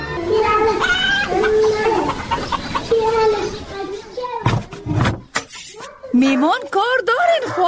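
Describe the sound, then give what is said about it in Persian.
A dog barks and whimpers in a radio drama, sharp yelps and rising whines following a few thuds like a door, with voices heard earlier. “بیالو خورجان امی سگک تا بگی که یک دفعه نگیریم.”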